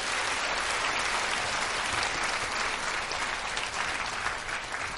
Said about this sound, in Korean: 예, 대단히 감사합니다. 여러분 다시 한번 큰 박수 부탁드립니다.